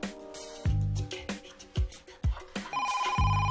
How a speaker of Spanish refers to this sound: Mamá, ve a coger el teléfono. Una llamada interrumpe la tranquilidad.